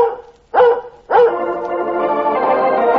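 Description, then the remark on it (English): Lassie barks loudly in a Red Heart dog food advertisement, three sharp barks in quick succession, the last one stretching into a long, sustained howl-like cry. No one speaks. “Lassie speaks for all dogs when Lassie speaks for Red Heart. And Lassie speaks for all three Red Heart flavors.”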